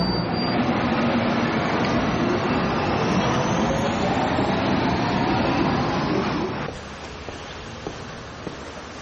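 A steady, loud rumble of a subway car in motion fills the space, with rising whine and rattling, then the roar drops abruptly to a quieter hum near the end.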